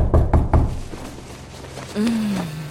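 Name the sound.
knocking on a door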